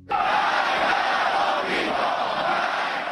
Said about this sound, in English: Chants of death to America, as crowds of Iranians, by some reports thousands or millions, took to the streets of Tehran after today's funeral for Iranian General Qasem Soleimani.